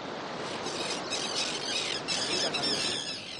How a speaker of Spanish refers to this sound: Esas gaviotas, Pedro, ¿de dónde has sacado esas gaviotas? Están como enfadadas. Me he acercado esta mañana ahí al malecón, como suele decir, y te he grabado unos efectos de sonido muy, muy bonitos.